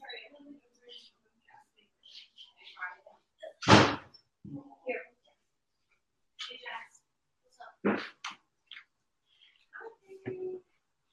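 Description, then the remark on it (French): A door bangs loudly as someone knocks, followed a few seconds later by a second sharper door thump, with soft, intermittent talking and faint shuffling around them. “La porte. Oh, la porte.”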